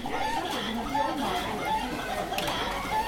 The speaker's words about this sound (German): Entpuppt sich aber als ein elektrisches Huhn, das ein kleiner Junge per Knopfdruck zum Kollern und Wackeln bringt.